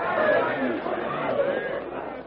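An angry yellow-skinned mob yells and gesticulates as it crowds around four captives, many overlapping voices merging into a steady, dense roar of shouting that stays loud throughout without any single clear speaker.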